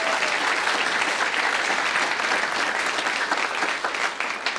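Sustained audience applause, a dense, steady wash of many hands clapping at an even, fairly loud level throughout, with no voices standing out above it.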